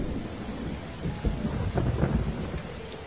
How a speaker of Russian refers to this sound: А тут дождик начался. Звонкий такой дождик, веселый, теплый-притеплый. Не успел Крячик под крыльцо спрятаться, и дождик искупал его хорошенько.